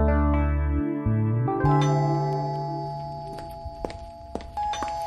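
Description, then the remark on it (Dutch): A doorbell chimes with a couple of ringing tones that linger and slowly fade, followed by a few soft thuds near the end. No one speaks. “Enfin, ik was volop aan het uitpakken en ineens gaat de bel.”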